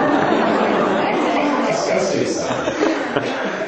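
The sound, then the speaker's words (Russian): A crowd of people loudly imitates donkeys braying all at once, a dense, overlapping din mixed with chuckles and chatter that holds steady for the whole few seconds. “Пожалуйста, все громко поржите, как ослы.”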